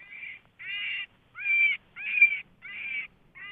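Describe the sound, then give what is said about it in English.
Cottontail rabbit distress call: about six loud, harsh, raspy squeals, each roughly half a second long, repeated in a steady rhythm with brief silences between and no talking. “Okay, so yeah, that's basically just a simple cottontail in distress.”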